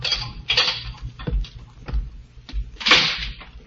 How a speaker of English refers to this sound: Then footsteps sound in the corridor. The door opens.